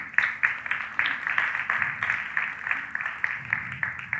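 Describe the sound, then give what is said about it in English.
Sustained audience applause: a dense, steady crackle of many hands clapping at once, fairly loud and even throughout with no voices over it. “Maybe you should hold your applause to the end so I can get through more of these.”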